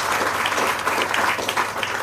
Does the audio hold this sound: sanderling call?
no